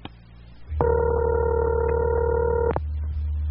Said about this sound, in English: Apparently, there's a ringing on the line there, Mr. Figgy. I think you have a bite, so shall we listen?